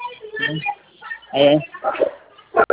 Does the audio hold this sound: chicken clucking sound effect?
no